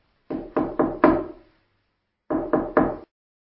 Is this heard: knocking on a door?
yes